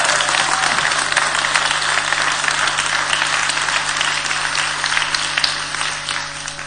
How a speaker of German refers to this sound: Vielen herzlichen Dank. Vielleicht machen wir den Applaus mal ein bisschen deutlicher, nicht so zaghaft.